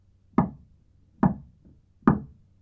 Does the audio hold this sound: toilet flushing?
no